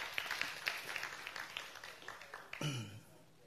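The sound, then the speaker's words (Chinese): A church audience applauds to give glory to Jesus Christ, dense, crackling claps that hold steady for a few seconds, then fade slightly as a brief low tone or voice cuts in near the end. “我这样简单的介绍是为了要借助各位的掌声把荣耀归给这爱我的主耶稣基督，谢谢。”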